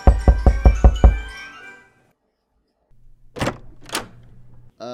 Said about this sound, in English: Did you mean to knock on my door?